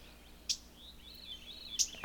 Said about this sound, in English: And it's just the chip of a bird that you've disturbed, because a lot of these birds are moving around with the young, and they're very defensive.